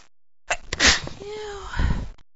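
A loud sneeze during a sneezing fit: a sharp breathy burst followed by a drawn-out voiced whine and a second gusty exhale before it cuts off. No talking.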